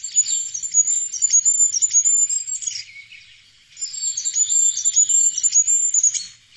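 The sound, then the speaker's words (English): Very high-pitched goldcrest song: two thin, rapid phrases of squeaky, cycling notes with a brief pause between them, heard clearly with no other sounds. “our featured bird today is the goldcrest. So Angus, if you could play us the sound of the goldcrest first of all.”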